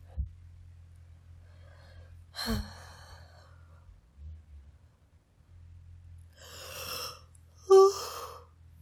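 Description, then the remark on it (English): A single yawn from a person reading aloud: a long breathy inhale swells into a short, voiced, rising exhale at the end. An earlier sharp breath is heard, with a low steady hum underneath and no talking. “Oh, pardon my yawn.”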